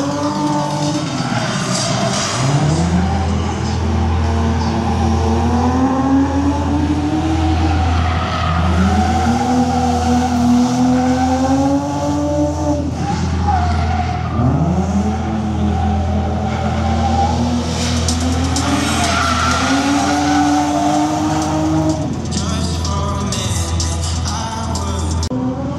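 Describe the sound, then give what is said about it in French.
Tires squeal in long, rising and falling wails as cars skid and drift around a track during a track-event show with passenger rides, engines roaring steadily underneath. The sound is loud and continuous, with repeated sweeping screeches. “C'est la partie de Track Events, donc ils font, comme vous pouvez l'entendre, mais ils font des petits shows avec baptême dans l'après-midi, enfin sur les deux jours.”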